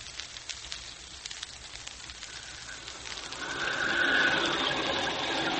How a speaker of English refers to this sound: Look at that rain, Crawley. It's just what you ordered, sir. And down there in the valley, the lights glow cheerfully through the rain.